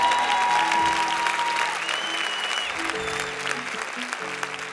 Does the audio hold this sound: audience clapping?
yes